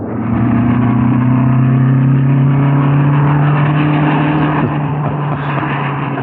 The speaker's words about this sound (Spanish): El hombre de Estambul obedece la orden y se aleja a bordo de su auto, mientras Calimán, Solín y Sacha lo ven partir.